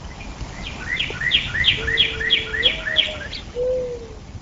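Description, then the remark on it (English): Birds sing outdoors on a sunny spring day near Stoughton in Dane County: a bright, rhythmic run of about eight quick, repeated chirps, with a lower, softer whistled note drawn out beneath, over faint background ambience. “Birds sing on a sunny spring day outside Jim Danke's home near Stoughton in Dane County.”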